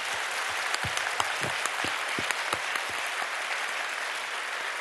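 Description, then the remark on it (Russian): A concert crowd applauds steadily for the staff of the Yugra Classic concert and theatre centre and the department, a dense wash of many hands clapping with a few sharper, louder claps standing out, sustained at an even level without any voices. “Пожалуйста, люди, наградите их аплодисментами.”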